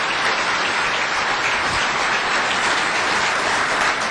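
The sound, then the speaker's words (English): An audience at a small business summit applauds the lieutenant governor steadily, a dense, even wash of many hands clapping that stays loud and constant throughout, with no voices rising above it. “And let's give our lieutenant governor, who's just a great, passionate advocate for small business, a big round of applause.”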